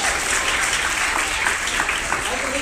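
A crowd applauds steadily, a dense wash of clapping at an even, fairly loud level throughout, with no voices rising above it.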